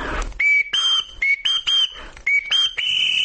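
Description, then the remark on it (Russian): A shrill whistled signal, used by a father to call all his children together, of several short notes in a rising-and-steady pattern, each blast loud and clear around a high pitch, repeated in a quick sequence with a longer final tone. “А если отец хотел собрать всех нас вместе, то сигналил вот так.”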